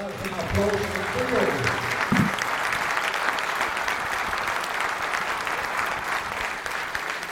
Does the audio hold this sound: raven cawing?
no